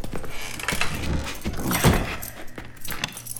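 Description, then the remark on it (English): Metallic keys jangle and clink over a few seconds, with a heavier thump in the middle as a workshop door shuts, followed by the scraping click of the lock being turned for security. “Is it customary to close and lock the door?”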